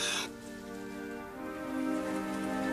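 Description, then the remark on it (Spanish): Steady rain hisses continuously under a soft, sustained musical drone, with a brief brighter splash of noise at the very start and no voices. “Llovía y llovía como si nunca fuera a parar.”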